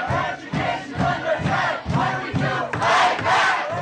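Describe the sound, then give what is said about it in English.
A large crowd of student protesters in Tucson, Arizona, protesting the ban of the Mexican-American Studies program in the city's public schools, chants in unison, loud voices rising and falling in a steady, repeated rhythm of about two beats per second, swelling stronger and brighter near the end. “The program ended in 2012, but not without student protest.”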